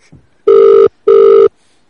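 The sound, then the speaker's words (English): A telephone rings twice as a call is placed, each burst a steady electronic tone lasting about half a second with a short pause between, loud and clear with no talking over it. “Instead, we'll call Barry Cousins.”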